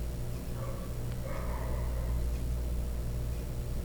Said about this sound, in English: Almost like that dog was barking your name.